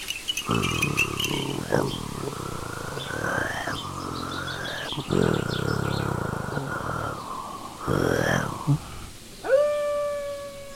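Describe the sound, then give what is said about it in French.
Several long, wavering wolf howls rise and hold in a loud, continuous chorus, with brief breaks between drawn-out calls, followed by a short bright tonal flourish at the end. “Comment remédier au problème des loups ?”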